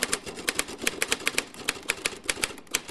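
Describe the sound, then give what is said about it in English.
Steady clacking of a Royal Standard manual typewriter, keys striking in a quick, slightly uneven rhythm of sharp bright taps, clear with no voices. “A Royal Standard Manual.”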